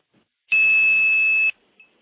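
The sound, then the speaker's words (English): A 2600 hertz tone played to seize a telephone trunk: a loud, steady, high-pitched pure whistle held for about one second, then cut off sharply, followed by a faint brief blip, the trunk's wink back. “Now what I'm going to do is play 2600.”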